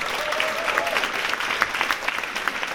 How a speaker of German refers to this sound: Dann haben wir hier an der Gitarre einen kräftigen Applaus für Manuel!